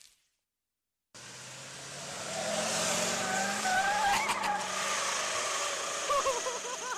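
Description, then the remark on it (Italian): Race car tires screech loudly and continuously for several seconds, with wavering high-pitched squeals over a roaring engine, starting abruptly after a brief silence. “Con questo finale sgommate.”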